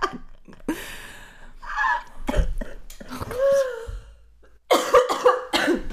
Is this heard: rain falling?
no